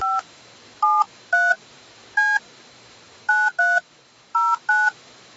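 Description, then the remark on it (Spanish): A phone number being keyed in with DTMF tones: eight short touch-tone beeps in irregular groups, fairly loud, over a faint steady line hiss, with no talking. “Vamos a otro teléfono.”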